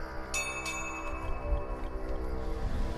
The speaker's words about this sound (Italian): Suono la campana per chiamare il traghetto che attraversa il Rino. Qui a Basilea lo chiamano Fari.